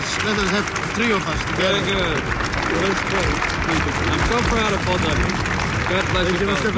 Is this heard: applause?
yes